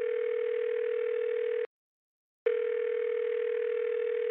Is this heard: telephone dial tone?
yes